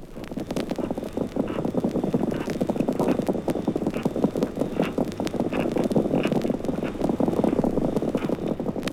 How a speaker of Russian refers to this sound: Этот скрежет был слышен периодически. Возможно, что это были локационные сигналы крупного хищника.